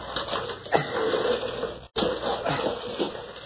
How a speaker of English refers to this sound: I could only get him a drink of water from that bucket. But my hands are tied. Maybe if I push that bucket over to him. I'll try it anyway.